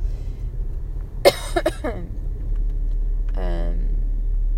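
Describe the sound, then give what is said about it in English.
A steady low rumble fills a car cabin while someone is driving on the road, with a couple of short throat-clearing or cough sounds and a brief voiced sound partway through. “I'm pretty sure it goes faster than what I'm driving right now”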